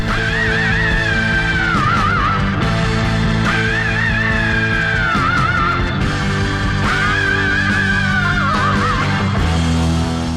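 A loud hard rock song with a dense, driving band and a high screaming vocal that returns in long, wavering wails every few seconds, held steady throughout without any talking.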